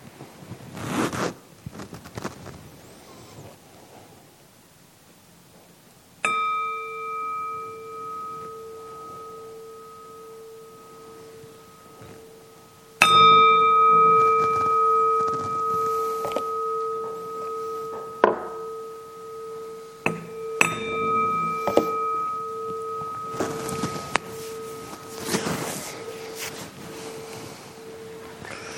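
A gong is tapped a few times at unhurried intervals to bring a group out of meditation, each strike ringing out with a clear, sustained metallic tone that slowly fades, with faint rustling in between and no talking.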